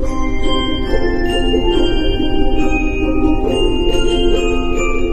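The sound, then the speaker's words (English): The St. Mark's United Methodist Bell Choir plays the hymn Now the Green Blade Riseth during communion at a Christmas service. Overlapping ringing tones sustain and blend into a shimmering chord, with fresh strikes every second or so. No voices. “No singing, no organ, and instead, a bell choir.”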